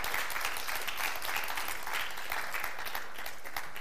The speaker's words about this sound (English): Yeah. Can we give them a clap, just a thanks, thanking them for singing?